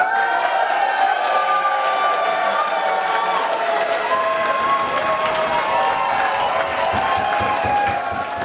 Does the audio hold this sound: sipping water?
no